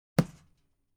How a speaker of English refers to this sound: He poked me in the chest.